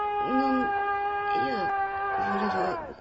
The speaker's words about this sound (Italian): Scusate, ma cos'era quel grido? Ah, vi interessa? Beh, il campanello, ovvio. Una mia piccola trovata per sostituire il solito noioso drin drin.